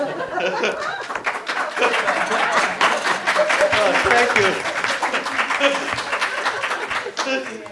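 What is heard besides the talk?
audience applause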